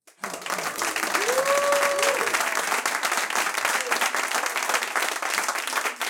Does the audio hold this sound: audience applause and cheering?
yes